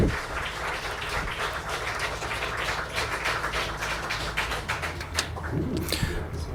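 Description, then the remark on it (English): A warm round of audience applause at the end of a talk, many hands clapping in a dense, steady patter that holds at an even level for several seconds, with a faint voice emerging near the end. “Thank you for your attention, and there is a warm round of applause.”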